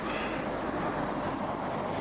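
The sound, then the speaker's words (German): A car driving by, heard as a steady, rushing roar of engine and road noise that holds an even loudness throughout, with no voices. “Ja, das ist nur ein Auto.”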